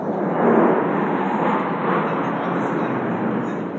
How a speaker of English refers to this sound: when a warplane buzzed the sky. And it's very loud and very scary, and here it is.